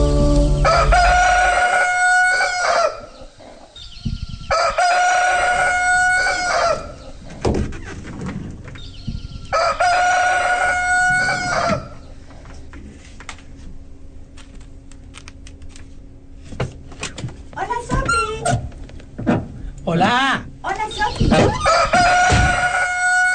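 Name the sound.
rooster crowing repeatedly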